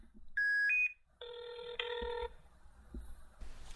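A couple of short dial-tone beeps give way to a single burst of a telephone ringing on an outgoing call, clear, then quiet line noise. The call is placed to a man's phone during a radio show segment.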